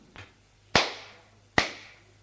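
slap across the face

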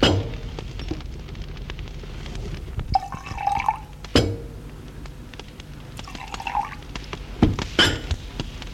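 pouring drinks into glasses

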